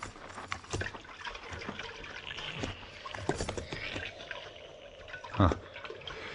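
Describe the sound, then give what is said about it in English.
Water splashes and sloshes in a shallow trough in several irregular bursts, with a louder splash near the end, set against a soft ambient hiss. “Not much water in the trough.”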